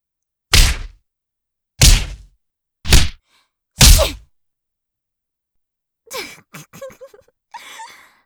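Four heavy punches thud into a person's face about a second apart, loud, followed after a pause by short pained gasps and groans.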